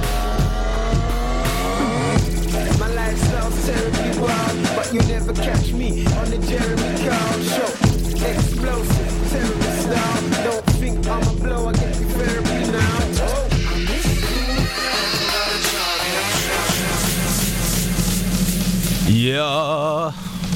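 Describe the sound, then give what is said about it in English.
A loud, dense surfer-rock grime track with dancehall and crunk touches plays, with a heavy steady beat, gritty distorted tones and deep bass, ending in a rising, wobbling whine. “He's doing the surfer rock grime thing right there.”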